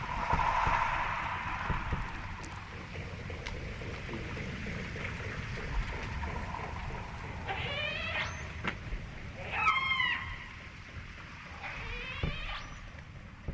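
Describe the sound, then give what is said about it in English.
Orca echolocation clicks, made while the orcas are hunting, tap faintly through a low underwater rumble, joined near the end by several rising, squealing calls that stand out more loudly. “So the tap, tap, tap, tap, tap, yeah. That's them hunting.”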